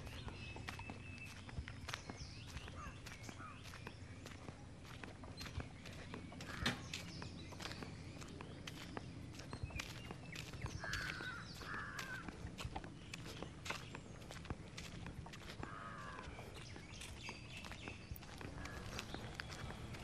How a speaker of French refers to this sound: Donc finalement, l'invité cette semaine, de ses nouvelles, bah c'est la nature. On peut écouter les oiseaux d'Auroville.